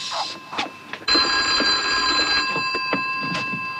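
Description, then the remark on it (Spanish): A telephone rings with a steady, bright electronic trill that starts abruptly and continues without pause, fairly loud, over faint background noise and brief rustles. “¿Crees que debemos contestar el teléfono?”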